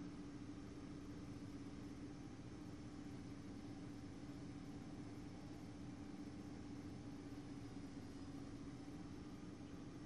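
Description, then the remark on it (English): A steady airplane engine drone hums without a break, with a low, even tone riding over a broad rushing roar. There are no voices and no change in loudness throughout. “I don't like the sound of this plane, like, at all.”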